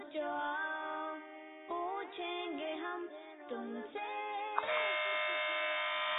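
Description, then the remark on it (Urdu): A harsh, electric quiz buzzer, pressed by a contestant on a Madani Channel quiz show, drones in several loud back-to-back bursts whose pitch shifts slightly, then settles into one long, steady buzz. “اس بار buzzer press کی ہے”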